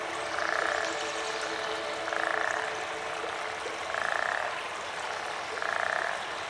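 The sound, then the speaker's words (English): Toads on the Nile in Egypt croak in four evenly spaced, buzzy trills, each lasting about half a second, over a steady hiss of flowing river water. No one speaks. “One time, I went all the way around the world to the river valley in Egypt to listen to the toads on the Nile.”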